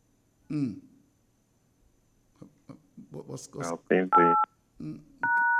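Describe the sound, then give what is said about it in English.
A phone gives off steady electronic tones in the background, one short beep and then a longer sustained tone near the end, while a man talks intermittently in the foreground. “All right, we're trying to talk to Ian Bradshaw, but just hearing a phone going there somewhere in the back.”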